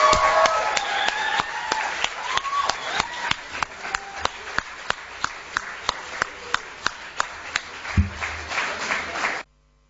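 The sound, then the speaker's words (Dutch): A crowd applauds the HVC team as it comes forward to receive a cup, settling into a loud, rhythmic clap in unison with some voices calling out, before the sound cuts off abruptly near the end. “Wil het team van HVC ook even naar voren komen, want jullie krijgen ook een beker en ook een applaus.”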